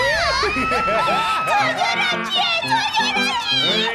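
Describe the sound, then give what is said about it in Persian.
A lively crowd of young first-year students cheers and shouts together, high-pitched yells rising and overlapping continuously, loud, like an excited group whooping. “سول اولی ها چقدر جوگیرن.”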